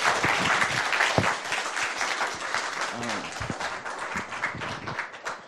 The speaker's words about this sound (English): Again, could we just welcome him? Yeah, could we just give him a round of applause?